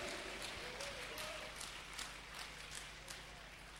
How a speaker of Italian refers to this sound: Vogliamo applaudire e benedire il Signore. Alleluia, gloria a Dio.